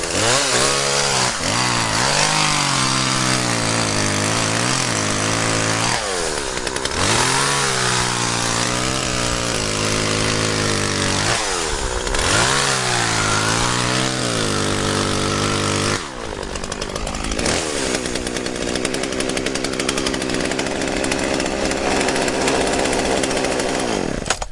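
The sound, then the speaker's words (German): A chainsaw runs loudly and continuously, cutting a cube-shaped block out of ice about 30 cm thick, its engine pitch rising and falling in repeated surges as it bites through the ice, then settling into a steady, rougher buzz toward the end. “So, jetzt habe ich einen rausgeschnitten. Jetzt muss ich schauen, dass ich ihn rausbringe.”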